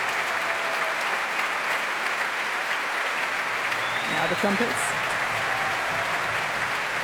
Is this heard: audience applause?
yes